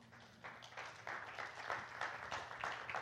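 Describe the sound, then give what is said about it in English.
A crowd applauds the teachers among them steadily for a few seconds, a dense patter of many hands clapping with no talking over it, the sound swelling slightly after the first half second. “That's a hand and applause.”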